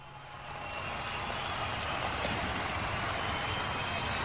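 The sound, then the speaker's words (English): A crowd sound effect swells in over the first half second, then holds as a steady, dense roar of indistinct crowd noise with no distinct voices standing out. “Okay, I'll turn on the crowd.”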